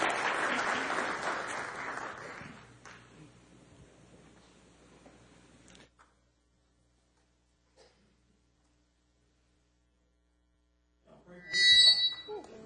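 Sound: audience applauding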